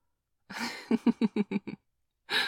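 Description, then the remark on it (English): Breathing in and out as an exercise: a breathy inhale, then a shaky exhale broken into about six quick voiced puffs, a pause, and another audible intake of breath. No talking. “What I want you to do is breathe in and out.”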